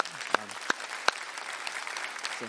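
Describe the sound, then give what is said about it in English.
An audience claps together in a steady, dense round of applause given to God, with a few sharp, louder claps standing out near the start and faint voices calling out beneath it. “And we're going to do that by just giving God a round of applause, thanking him for his glory and his honor in our life.”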